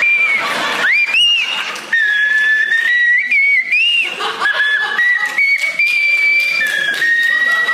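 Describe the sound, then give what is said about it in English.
A person whistles a wavering, somewhat shaky song melody, holding long notes with small pitch slides, while breathy snickers and laughter break in around it. “That song is crying for help. Through your whistle.”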